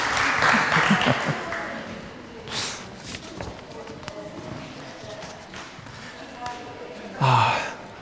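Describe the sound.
A short burst of audience applause for a child at the start fades into scattered claps and crowd noise, with voices talking afterward.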